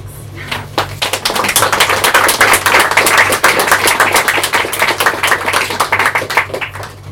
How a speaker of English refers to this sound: So this is my last one, and thank you so much for being good, such good listeners and for clapping in between the poems. Just helps me ego-wise.